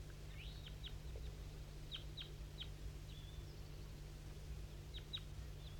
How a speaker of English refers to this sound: That wild bird down the hollow started to sing.